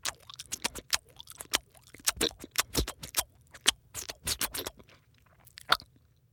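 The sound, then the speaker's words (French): An elephant munching on grass: a steady run of dry, crunchy tearing and chewing sounds in irregular bursts, with no talking. “l'éléphant dévore ses herbes.”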